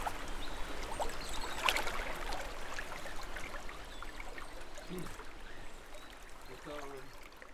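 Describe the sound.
The Sarre river flows steadily right beside the speakers with a continuous rushing, babbling wash of water, and brief muffled voices surface near the end.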